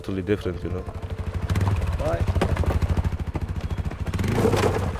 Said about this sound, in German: Noch einmal heulen die Motoren auf, dann knattern Jasper und Orhan den Berg hinab